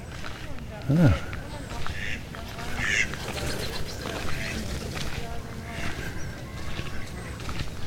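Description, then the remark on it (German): Turkeys in a poultry enclosure: one lets out a loud call near the start, followed by a shorter, higher call from the flock amid busy farmyard background noise. “Das sind Truthühner.”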